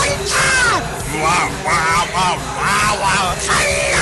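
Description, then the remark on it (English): A drunk person bellows loudly and erratically in a string of rising and falling shouts, continuous, with a murmur of crowd noise faintly underneath. “Another sign is excessive random yelling.”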